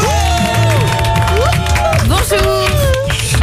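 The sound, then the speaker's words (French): Steady, loud audience applause with cheering lasts the whole moment, dense clapping mixed with rising and falling whoops or whistles, and no clear speech over it; applause on a morning radio show for the first listener, who opens the programme. “Applaudissements pour celle qui ouvre l'émission ce matin.”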